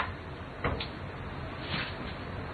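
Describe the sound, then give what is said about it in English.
The door of a large wooden armoire (wardrobe) creaks and swings open, with a knock and a rubbing scrape of hinges and wood, against a steady background hiss. “Yeah, armoire or wardrobe. All right, why don't you open that door for me?”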